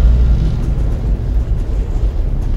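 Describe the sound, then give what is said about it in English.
Rocket engines of the USS Hope roar at liftoff in a loud, continuous rumble, deep and crackling, with heavy low-end thunder that holds steady throughout and no voices over it. “Boost ignition. All engines running.”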